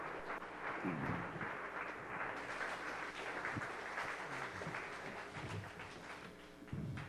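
An audience claps as praise to God in a steady, dense, continuous wash of applause, with scattered louder claps and a few faint cheers mixed in throughout.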